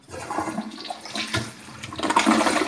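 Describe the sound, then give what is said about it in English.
A toilet flushes with a loud, rushing swirl of water that surges, dips briefly, then swells again, with no one talking. “you get flushed down the toilet.”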